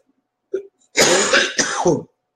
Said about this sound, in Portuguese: Aí, ó, só tosse.